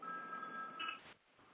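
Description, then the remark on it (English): A second telephone rings with a steady electronic tone that holds for about a second, briefly rising in pitch near the end before cutting off. It sounds faint and muffled, like it's over a phone line. “Now my other phone's ringing.”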